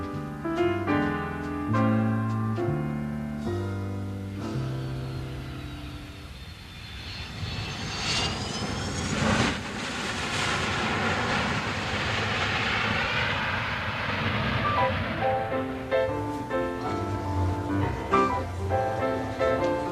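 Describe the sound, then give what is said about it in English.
Airplane engines at an airport roar up in a broad, loud whoosh that swells and fades through the middle, with upbeat music playing before and after the engine noise. “Let's just go to the airport now.”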